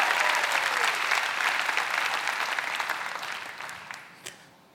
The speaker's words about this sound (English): Come on, somebody ought to clap.